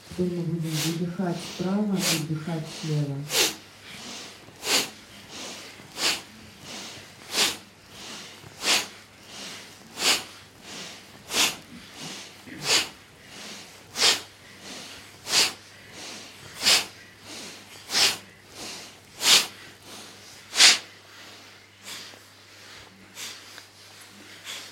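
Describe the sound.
Forceful, rhythmic breaths through the nostrils in a powerful breathing exercise, breathing out through the right nostril and in through the left, sharp sniff-like bursts about once a second, loud, continuing steadily for over twenty seconds after a brief spoken voice at the start.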